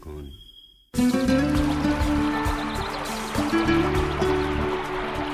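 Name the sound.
flowing water stream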